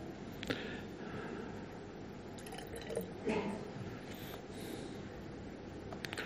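Red dye trickles and drips into a jar of water, with a few soft splashy plops over a steady background hiss, fairly quiet.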